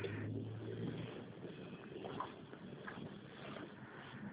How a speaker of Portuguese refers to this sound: Eu tô no meio da rua, aqui tá um trânsito.